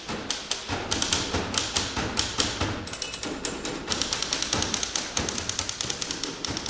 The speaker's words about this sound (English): This is the …. The composition is called …. The … has played clubs, festivals, and private parties. But this night, it's a literary gig at the Boston Center for Adult Education.